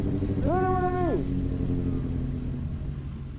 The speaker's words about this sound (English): In December 2017, Santa was on holiday patrol in downtown Paris. He was riding around on a red high-performance motorcycle, spreading Christmas cheer.